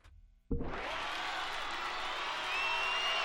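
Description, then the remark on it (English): A large concert crowd suddenly erupts into loud, sustained cheering and applause at the start of a live song recording, after a brief quiet moment, with a few high whistles rising near the end. “It's the live version, so there's going to be some cheering at the beginning, but we hope you enjoy this next tune.”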